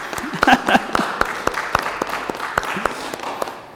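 An audience at a church baptism service applauds to welcome a newly baptized member, with many hands clapping in a steady, dense patter that carries on throughout. A few brief voices rise over the clapping near the start.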